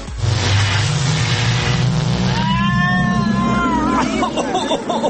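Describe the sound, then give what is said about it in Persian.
A loud sci-fi time machine powering up: a heavy low rumbling drone builds, then wavering, warbling electronic tones sweep and wobble over it before it breaks off. No one speaks. “و اما بریم ببینیم آرتای ماشین زمانش رو روشن کرده کجا سفر کرده.”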